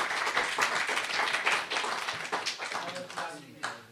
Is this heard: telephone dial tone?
no